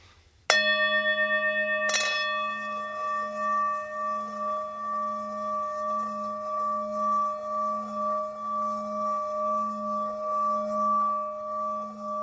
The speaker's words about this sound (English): It's not always necessary, but some bowls are a little more finicky than others, so I'll strike it just to get it vibrating, and then just gently, with a continuous pressure, rub around the outside edge of the bowl.